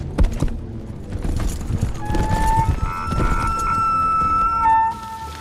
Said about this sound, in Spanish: La combinación entre las imágenes a cámara real, cuando los hobbits reaccionan, combinadas con esos planos a cámara lenta. De los caballos cabalgando, además filmado desde abajo, desde lo que se llama contrapicado.